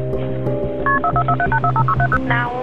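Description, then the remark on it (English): A rapid run of short touch-tone beeps as 911 is dialed from a home in Milledgeville, Georgia, calling for paramedics; each dual-pitched tone clipped and evenly spaced, over a steady low background hum with no talking. “had called 911, asking paramedics to come to his home in Milledgeville, Georgia.”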